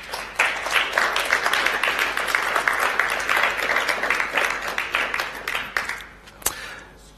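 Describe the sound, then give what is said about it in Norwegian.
An audience applauds for several seconds, a dense, steady wash of many hands clapping that thins out toward the end, finishing with a few scattered claps. “Var det noe av det her som traff ditt hjerte, så kan du godt gi en skikkelig applaus.”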